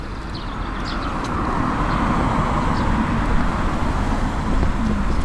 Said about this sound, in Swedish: Här var mycket trafik plötsligt. Var är jag nu någonstans då? Vad står det? Norra Ringvägen. Ah, men då är jag på det här stråket som löper runt hela city.